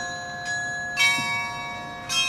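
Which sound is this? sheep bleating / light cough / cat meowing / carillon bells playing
carillon bells playing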